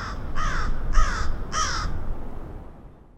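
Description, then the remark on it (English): Three harsh caws from Chicago crows in a steady rhythm, each a short raspy burst, ringing out clearly against a low background rumble before fading into quiet. “Chicago's crows were hit by a deadly virus, and it's one that humans are susceptible to as well.”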